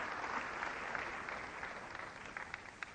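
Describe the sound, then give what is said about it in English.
Steady audience applause welcoming Howard Lyman, the Mad Cowboy author and ex-president of EarthSave, a dense wash of many hands clapping at a fairly even level for the whole stretch, with a few sharper individual claps standing out near the end. “You should never applaud for somebody until you hear what they have to say.”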